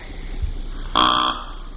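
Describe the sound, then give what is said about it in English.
A single short, high, nasal bleat blown on a deer call imitating a juvenile deer, lasting about a third of a second, rising out of a steady low background hiss with no voices, in a space with a loud echo. “This is what a juvenile deer sounds like.”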